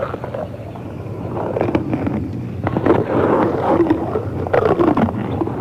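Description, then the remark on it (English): An animal chews and crunches on bones, with irregular sharp cracks and snaps over a steady low, growly rumble. No one speaks. “Sounds like something's eating something now.”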